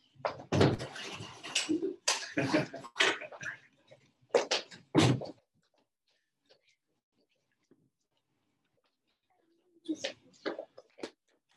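Chairs bump and thud in quick, clattering clusters, loud, then fall silent before a few more scattered knocks near the end.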